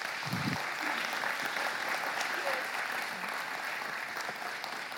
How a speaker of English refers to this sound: So, a round of applause for these two.